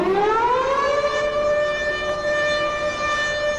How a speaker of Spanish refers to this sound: No había terminado de mandar el mensaje onírico cuando escuchó una alarma ensordecedora y la voz cada vez más lejana del funcionario gritando: ¡Infracción! ¡Infracción! ¡Cabina 32!